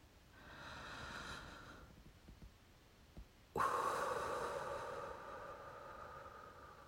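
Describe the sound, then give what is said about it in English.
A slow, airy deep breath in, a brief pause, then a sudden, longer rushing breath out that gradually fades. The breathing is clearly audible, with no talking. “Here, take a deep breath with me.”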